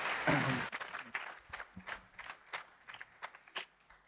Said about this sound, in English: Let's just give the band a round of applause. They're looking good.